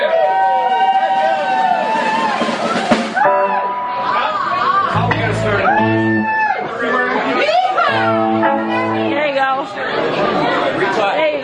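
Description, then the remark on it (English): An audience at a live music performance yells and cheers at full volume after being urged to scream and make noise, many voices overlapping in a continuous, excited roar that stays loud throughout, with rising and falling shouts layered over one another. “everybody scream! Make some noise!”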